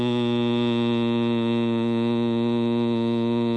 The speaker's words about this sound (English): The sound hum, for example, resonates mainly in the lungs. And again, the way you make it is you take a deep breath. Hum.